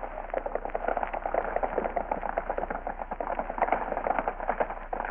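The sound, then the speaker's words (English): About a dozen horses carrying riders gallop off together, a dense, rapid clatter of hoofbeats that runs steadily without letup, fairly loud and muffled, with no voices. “He hustles me outside and gives me a horse. His men are waiting, about a dozen of them, and we pound off.”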